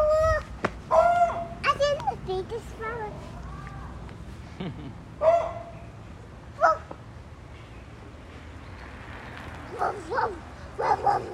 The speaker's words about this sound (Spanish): Uy, es un perro bravo.